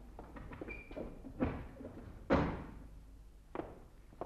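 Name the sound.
balcony door being opened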